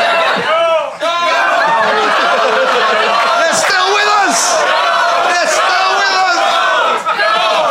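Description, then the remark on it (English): A live audience at a Beef Brothers show cheers enthusiastically, many voices whooping and shouting at once in a loud, unbroken roar that holds for several seconds with a few laughs mixed in. “So, folks, if you're listening at home and you'd like to come down and match the enthusiasm of the crowd, good luck.”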